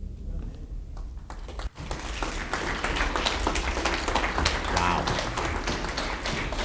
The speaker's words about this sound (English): Let's clap one more time